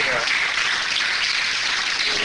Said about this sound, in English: Let's give God another hand clap of praise up in here.